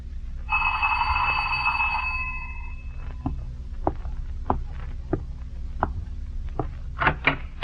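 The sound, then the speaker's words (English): A doorbell rung by a visiting man sounds with a bright, sustained chime for about two seconds over a low steady rumble, followed by a series of evenly spaced soft thumps like footsteps. “The first I ever heard of it was when, one evening a few weeks ago, a man I never had seen previously rang my doorbell.”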